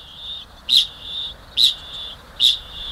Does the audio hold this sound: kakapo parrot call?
yes